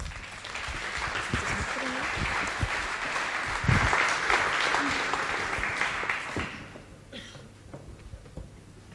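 Audience applause, a dense, steady crackle of many hands clapping for about six seconds, then fading out quickly into quieter room sound with a few stray claps.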